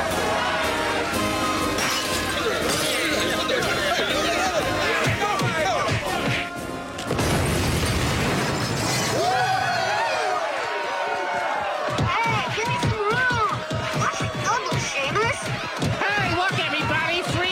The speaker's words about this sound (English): That's The Simpsons. And the explosion you heard was a bunch of Irish guys throwing some type of bomb at a fish and chips place. Like, that was all happening in Springfield.